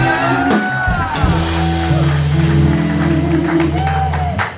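A comedy show crowd claps and cheers loudly and steadily for the next comedian coming up, with scattered whoops and whistles rising above the noise. A low, droning musical tone plays underneath throughout.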